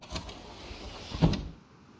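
A car's power window hums as it lowers a little by the sea at dusk, a steady motor whine lasting just over a second with a small thump near the end, then fading to quiet cabin noise.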